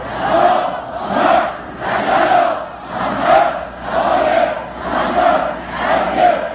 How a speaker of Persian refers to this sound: شادی روح شهدای آتش نشان، صلوات بلند بفرست.